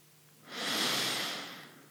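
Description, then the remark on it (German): A single slow, deep breath taken during a guided gratitude meditation, an airy, hissing rush swelling in and easing out over about a second and a half, fairly soft, with no talking. “Dann holen wir jetzt nochmal tief Luft”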